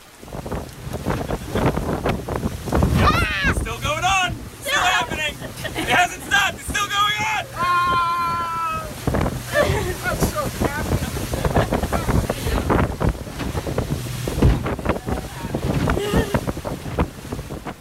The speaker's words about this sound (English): Rocking the ocean like an overzealous kid on a seesaw, it's hard to do justice to the intensity of the weather. But in the spirit of trying, here's some very bad audio from one of the very bad boat rides I weathered during that week out in Fiji.